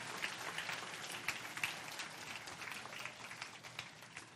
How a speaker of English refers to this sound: All right, can we just give all these volunteers a round of applause?